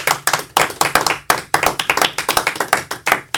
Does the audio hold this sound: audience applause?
yes